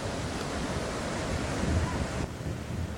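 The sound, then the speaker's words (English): Ocean surf rushes in a steady, dense wash of noise, loud, with a slight swell in the middle before easing a little toward the end. No voices. “If there was just nothing but the sand and the sea and the surf, we could be natural.”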